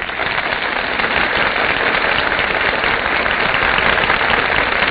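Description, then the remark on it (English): Steady, dense applause from a large theater audience greeting the stars as they enter from the wings at the Gulf Theater production of Altar Bound, a continuous crackling wash of many hands clapping at once, loud and sustained throughout with no voices over it. “That applause, ladies and gentlemen, is the audience's greeting to our stars who are now entering from the wings.”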